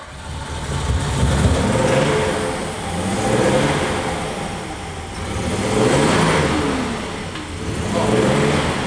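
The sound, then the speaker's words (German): The engine of Bertha, a vintage car with 180 horsepower entered in the classic-car Monte Carlo Rally, revs repeatedly, rising and falling in several loud surges over a steady rumbling idle, with no one speaking. “Also unser Auto heißt Bertha. Und die Bertha muss halt genauso fit sein wie wir auch.”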